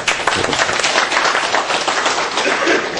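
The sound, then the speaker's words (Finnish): An audience applauds at the end of a speaker's talk, a steady, dense wash of many hands clapping at once, loud and sustained for the whole stretch with no voices rising above it. “Jos ei muuta, nyt voi taputtaa.”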